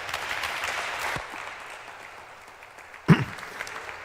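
Audience applause, a dense wash of clapping that fades over the first second, then lingers faintly before a sharp bump or knock near the end.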